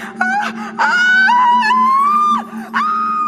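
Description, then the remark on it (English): Loud, high-pitched screaming of an angry, furious woman, held in three long wailing bursts separated by brief breaths, with a steady low hum running underneath. “She's screaming so loudly she might break herself.”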